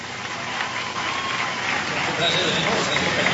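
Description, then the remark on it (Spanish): Steady, dense applause from a large crowd in a convention center as FARC leader Rodrigo Londoño speaks of forgiveness to the victims, a continuous wash of clapping that holds level and swells slightly toward the end, with faint crowd voices mixed in. “Habla del perdón a las víctimas, el aplauso es cerrado en este momento.”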